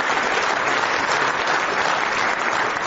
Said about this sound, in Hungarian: Tapsoljuk meg, nagyon-nagyon bátor.